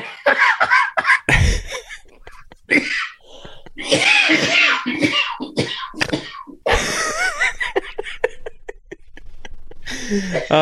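Close, forceful coughing fits, some sounding almost like sneezes, break out repeatedly over about ten seconds, mixed with laughter and bits of voice between the bursts.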